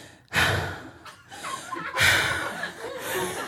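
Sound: imitated heavy breathing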